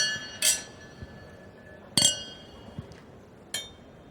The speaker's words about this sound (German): Und apropos 7 gute Gründe, lasst uns unsere 7. Flasche Champagner aufmachen und zusammen anstoßen auf die goldene Podcastblase 2020.